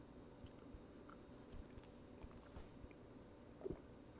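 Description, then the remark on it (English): Quiet mouth sounds of someone sipping coffee: soft wet smacks and swallows scattered over a few seconds, with one slightly louder sip near the end. No one speaks. “But before we do that, let me read you some more shit that I wrote after another sip of coffee, prima donna style.”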